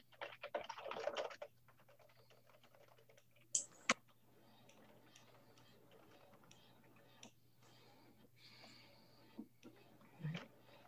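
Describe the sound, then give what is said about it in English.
Quiet, irregular clicking of keys on a computer keyboard, with bursts of rapid typing and a few sharper, louder taps, over a steady low hum. “I'm going to be typing in something here.”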